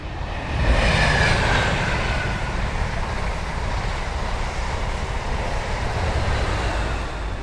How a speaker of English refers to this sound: one of the many trains goes past because we're right next to Needham Market Station